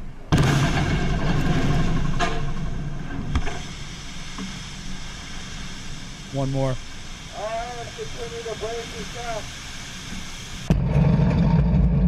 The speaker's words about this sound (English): And so what they've got here is this is the actual audio of two 10,000-pound TNT bombs going off underwater. Whoa. By the way, the ships did fine, but it's pretty cool when you hear the explosion and you hear the spray of the water.